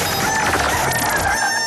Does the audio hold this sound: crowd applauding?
no